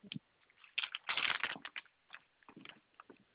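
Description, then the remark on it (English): Crinkly rustling of paper being handled as someone gets a piece of paper to write down a telephone number, with a dense burst of crackling in the middle and a few lighter shuffles afterward, no voices. “Let me get a piece of paper.”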